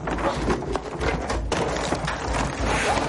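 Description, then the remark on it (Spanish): A drawer drops to the floor with a heavy thud as a woman searches in it, followed by a busy clatter and rattle of scattered contents and a few sharper knocks over a steady noisy background. “Sara busca en un cajón que se le cae.”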